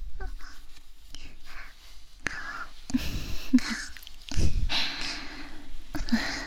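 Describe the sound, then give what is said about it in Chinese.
A person imitates a cat's purr with breathy, rasping, snuffly bursts of sound that come in uneven waves over several seconds, with no words spoken. “一般小狗狗的时候，之前学狗狗叫都还挺像的，猫猫的呼噜就还行吧。”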